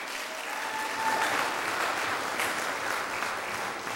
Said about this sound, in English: You guys clap for anything.